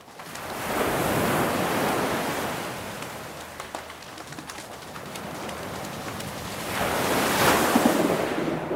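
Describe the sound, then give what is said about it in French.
Ocean waves on the vast open ocean surge and wash in two broad, hissing swells, rising loud near the start and again near the end, with scattered bird calls and a light wind over the surf. “Écrasée de fatigue, Carmela s'endort, perdue dans l'immensité de l'océan.”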